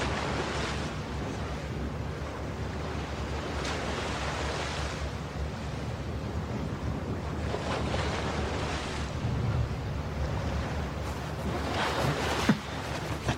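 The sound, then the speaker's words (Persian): Steady roar of sea waves and gusting wind on the East Sea, with surges of surf rising and falling every few seconds and no voices, loud and continuous throughout. “دریای شرقی، زمان حال.”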